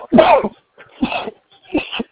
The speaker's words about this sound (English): I'm sorry. Bless you. Was that a sneeze?